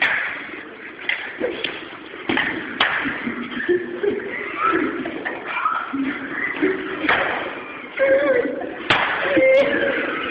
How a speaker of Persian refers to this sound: طوری شد که دیگه ملت تو اوقات فراغتشون پا میشن میرن مسجد برای زدن سیلی محکم به دشمن، با هم دیگه تمرین میکنن.